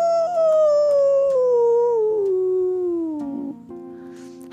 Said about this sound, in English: Howls the coyote miles from the house. Up goes the window. What was that? Wonders Mouse. Now I can see why he would wonder that. There's something kind of lonesome and sad about a coyote howl.